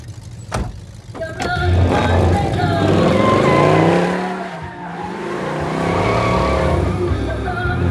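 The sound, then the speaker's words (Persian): A 1972 Challenger muscle car with a 4.9-litre V8 accelerates hard in a 0-to-100 run, its deep engine roar climbing steadily in pitch through the gears over a low rumble, with a brief squeal of tires near the start. “عروسک آره، چلنجر مدل 72، موتور V8 4.9 لیتری، 0 تا 100ش هم الان میخوام بفهمم.”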